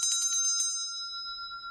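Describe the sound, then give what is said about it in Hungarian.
A small bell rings with a quick flurry of about six bright, high strikes, then one clear metallic tone lingers and slowly fades. No voices are heard. “Hallom, hogy csöngetnek, persze másként, mint egy órára, mint karácsonykor, amikor az angyalok csöngetnek, mert Jézus megszületett.”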